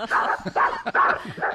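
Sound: dog barking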